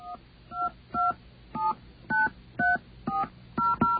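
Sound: telephone keypad dialing tones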